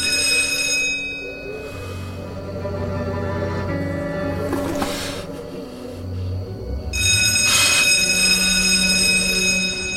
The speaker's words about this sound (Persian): صدای زنگ.